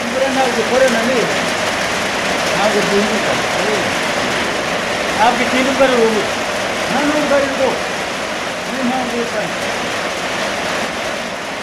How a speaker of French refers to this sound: C'est de la grêle, c'est plus de la pluie. Tu as entendu quelque chose? La grêle.